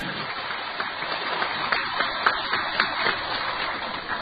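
Warm applause from Tibetans from inside Tibet in a meeting hall, after the chief minister of the Tibetan government-in-exile praises the 2008 peaceful protests: a steady dense patter of many hands clapping together at an even, fairly loud level with no speech over it.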